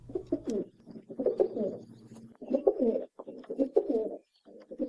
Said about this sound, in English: we've got the mating song of the rock pigeon, which was introduced to Hawaii more than 200 years ago